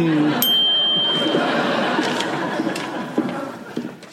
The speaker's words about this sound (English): Oh. I thought I heard the bell toll.